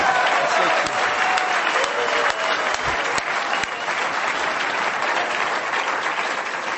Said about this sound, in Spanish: ¿Qué les parece si nos damos un aplauso, compañeros?